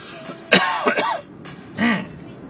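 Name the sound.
coughing and throat clearing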